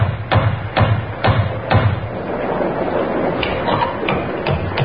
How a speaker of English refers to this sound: and then knocked on the door of Webley's Inn.